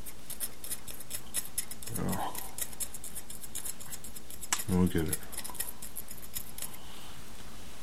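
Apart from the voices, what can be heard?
scissors cutting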